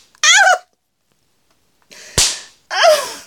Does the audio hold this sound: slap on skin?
yes